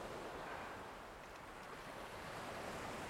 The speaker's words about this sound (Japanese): ああそうか、波を踏みながら行けば目も覚めるはず。